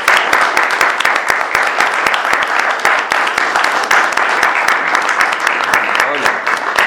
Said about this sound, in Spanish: pido un fuerte aplauso para todos, no solo para los de la lista, el grupo de la juventud, los militantes, los que hicieron fiscales, los que trabajaron para que esto fuera posible. Gracias a todos. Para ello pido un aplauso.